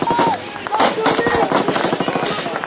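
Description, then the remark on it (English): Loud, rapid bursts of gunfire crackle continuously, with brief whistling whines of rounds ricocheting off concrete and back into the air cutting through the barrage. “Rounds bounced off the concrete around us, making a whizzing noise as they ricocheted back into the air.”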